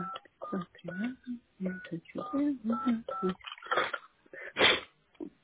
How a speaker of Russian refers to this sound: А попробуйте какой-нибудь номер набрать, чтоб происходит. Ну, вот я маме звоню. Сейчас я позвоню, сейчас, секундочку, ага.